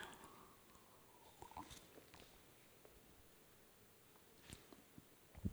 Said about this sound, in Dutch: Ik ga mijn slokje water pakken. Ik krijg een hele droge mond.